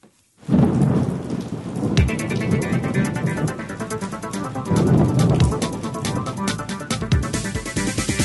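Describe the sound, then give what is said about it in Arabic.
Heavy rain pours steadily throughout while low, rumbling thunder rolls in and swells repeatedly, loud, with no voices present, from a storm with lightning that began the previous night. “انطلقت العاصفة الليلة الماضية وتستمر أياما عدة مع برق ورعد”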